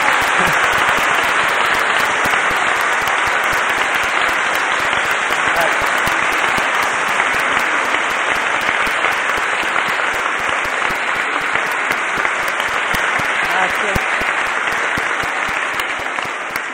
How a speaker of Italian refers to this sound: Comunque, l'applauso più grande lo vorrei per Don Felice, perché